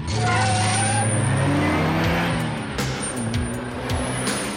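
A sports car engine revs loudly, its pitch climbing as it accelerates, then dropping and rising again through a gear change in one continuous roar.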